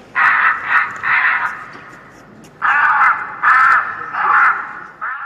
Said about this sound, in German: das, was wir da gerade gehört haben, das Soundfile, das stammt von der Krähenvergrämungsanlage bei der Bismarckschule